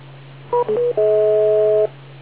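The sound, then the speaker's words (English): A radio repeater beep tone: a few quick electronic chirps, then a steady two-note tone held for nearly a second, clear and fairly loud over a constant low hum, with no talking. “I'll wait for the beep”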